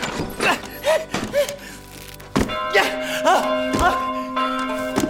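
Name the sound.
church bell ringing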